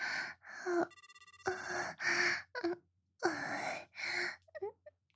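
A short burst of electronic phone ringing before the call is answered, a rapid pulsing tone lasting about half a second, sandwiched between close, breathy moans and gasps from a woman.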